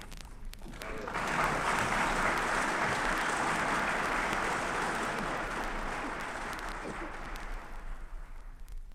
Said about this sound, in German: Dieser Beifall kam von allen demokratischen Parteien. Nur die Kommunisten schwiegen, ebenso wie einige rechtsstehende Abgeordnete.